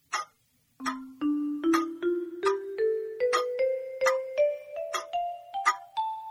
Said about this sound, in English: The clock struck four.